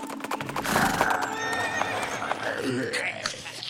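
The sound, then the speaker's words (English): A horse being ridden on an outback excursion whinnies loudly, its neigh rising and falling, while hooves clip-clop in a steady rhythm underneath. “Nice thing going out on an outback excursion with the authorities. You get to ride a horse.”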